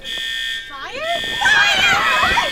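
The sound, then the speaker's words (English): A school bell rings with a steady, loud electronic buzz for about half a second, then cuts off as a rising voice and a burst of noisy, overlapping chatter take over. “That can't be the bell for dismissal.”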